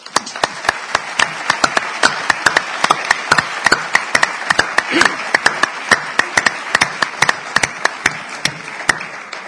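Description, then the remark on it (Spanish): An audience applauds in tribute to the work of two bull-ranch owners, many hands clapping in a dense, sustained burst of sharp, crackling claps with a few louder individual claps standing out, no voices over it. “Seguro que desde arriba nos estarán siguiendo y por mi parte, como merecido homenaje, pido un aplauso de reconocimiento a su labor y a su obra.”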